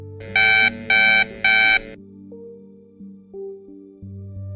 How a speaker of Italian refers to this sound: Sveglia suonò puntuale come sempre. Segnava le 6:30. Dopo il terzo bip